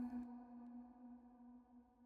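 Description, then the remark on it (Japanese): A church bell tolls once, its deep, low strike giving way to a long humming resonance that sustains softly and fades slowly, with no voices present. The bell is striking the hour at sunset over a wheat field. “どこからか教会の鐘の音が聞こえてくる。”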